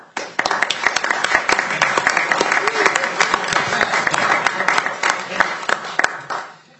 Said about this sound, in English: Before we begin, I would like to welcome our newest member of the House, Representative Nelson, if we could all give him a round of applause.